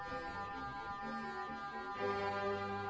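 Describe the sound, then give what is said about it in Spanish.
Biorelaxation beeps with background music: steady, layered electronic tones hum together like a soft ambient drone, with low notes shifting underneath and the whole texture swelling slightly louder toward the end. No one speaks. “Mientras usted está escuchando mi voz y mis palabras, los pitidos y la música que usted está escuchando de fondo ya están relajando su sistema simpático y activando su sistema parasimpático”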